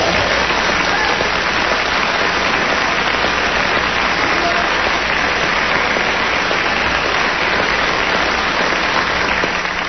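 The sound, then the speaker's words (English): Steady, dense audience applause on the show fills the whole clip, a loud continuous wash of clapping hands with no pauses or clear individual claps standing out. “It's always good to get applause on the show.”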